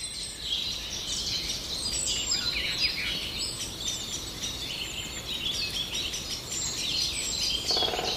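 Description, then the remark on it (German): Common blackbird calls fill the whole recording, with varied chirps and whistled phrases running continuously at moderate volume, against a soft outdoor background hiss and without any talking. “Das ist doch eine Amsel, keine Singdrossel.”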